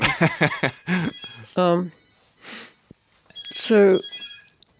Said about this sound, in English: Is that my phone? Yeah. Shall I leave it? It'll go off in a minute.